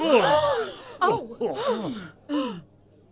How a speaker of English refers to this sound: A shocked gasp is both heard and felt throughout the boardroom.